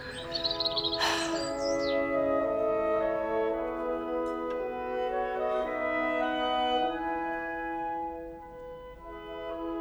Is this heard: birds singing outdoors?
yes